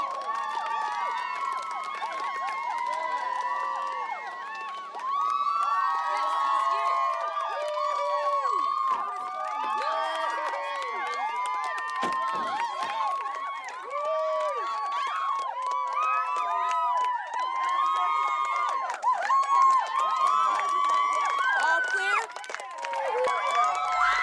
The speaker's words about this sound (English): As you can see behind me, there's a group of very excited people gathered here today, hoping to get a glimpse of the Supreme Chancellor who is scheduled to arrive.